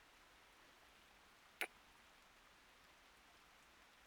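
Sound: rain falling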